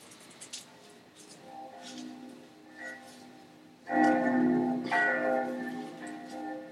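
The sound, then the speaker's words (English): Church clock bells in Florence chime at midday with a resonant, lingering ring, softer tones fading at first before two loud, full strikes sound close together near the end, no voices present. “He woke at midday, the clocks of Florence chiming long.”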